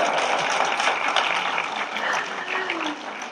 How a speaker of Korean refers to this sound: 자, 이쯤 하면 한번 박수 치셔야 되는 거 아니에요?